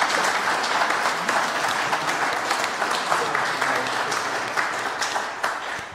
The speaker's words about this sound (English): Can we just clap and honour those people for making that happen?